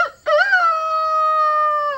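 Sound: human imitating rooster crowing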